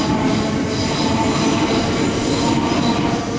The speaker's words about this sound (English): The white grind of gridlock below obscures the silver slither of a train hurtling towards me. As its eyes meet mine, I scramble in a huddle, half a meter from harm's way. The bridge shudders with the iron horse gallop.